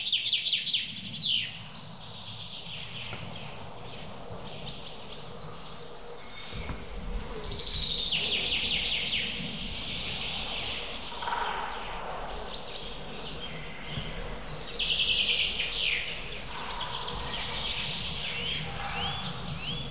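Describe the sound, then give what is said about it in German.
A goldcrest sings in very high, thin, rapid trills, repeated in short bursts among other chirping birds, with a steady low background hum and no talking. “Ich gebe dem Goldhähnchen jetzt mal kurz eine Chance.”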